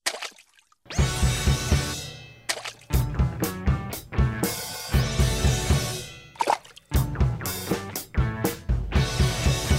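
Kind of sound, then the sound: nature, water splashing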